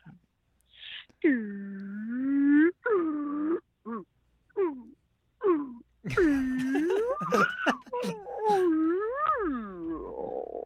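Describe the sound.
A human voice imitates whale song with long, sliding moans and wails that swoop up and down in pitch, a run of drawn-out calls broken by a few short bursts, loud and unaccompanied.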